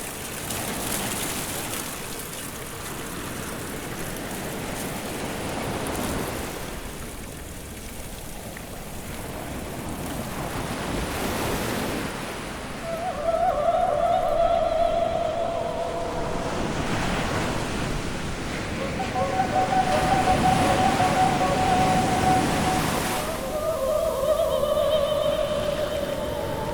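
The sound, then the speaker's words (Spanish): Ocean waves break on the shore in steady, broad washes of surf, swelling and receding over and over, with no voices present. “Mar sonoro, mar sin hondura, mar sin fin.”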